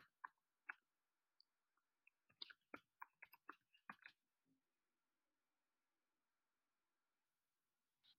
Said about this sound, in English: I'm typing.